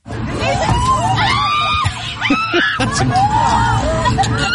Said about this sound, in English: So the second one took flight inside the plane as the plane was taxiing. And it caused a little bit of a commotion, people freaking out that a bird flying around in the confines of a small commuter jet. It's pretty fun to listen to.